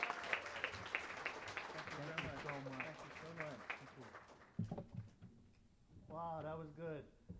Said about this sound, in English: How about a warm round of applause for your organization, Hawaii Association of the Blind.